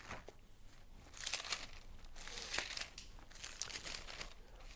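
Thin Bible pages flipped in a quick series while turning to Romans chapter 4, soft crinkly rustles in several short bursts, fairly quiet, with no voices.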